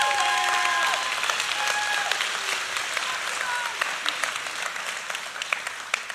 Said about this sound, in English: Now you can clap.